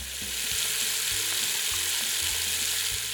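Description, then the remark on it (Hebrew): Water pours steadily from a metal tap set in a wall into a large square ceramic basin, in a continuous, bright hissing rush with a few low thumps underneath, holding an even loudness throughout and with no voices. “לא נאלצת לרדת 4 קומות, רק סובבת ו... מים חיים.”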